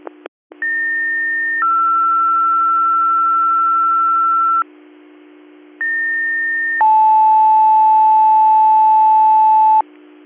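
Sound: dispatch alert tone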